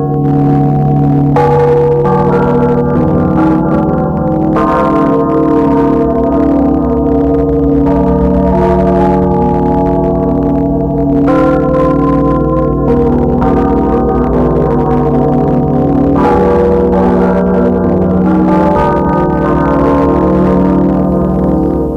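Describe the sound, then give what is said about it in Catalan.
Church bells ring loudly and continuously, their overlapping tolls leaving a rich, humming resonance, with fresh strikes cutting in every few seconds. No voices are heard. “Des de la mitjanit del 23 d'abril de 1508, quan gairebé tothom dormia en el monestir i a l'escolania de Lluc, de cop i volta comencen a sonar les campanes.”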